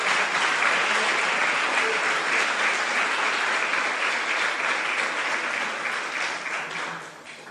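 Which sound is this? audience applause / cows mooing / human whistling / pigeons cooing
audience applause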